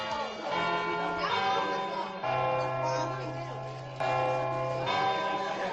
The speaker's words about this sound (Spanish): ¿Qué te parece si hacemos un ensayo para Nochevieja? A ver, ¿quién de los que escucha no se ha liado alguna vez con los cuartos o con las campanadas en general?